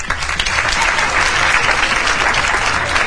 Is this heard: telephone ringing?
no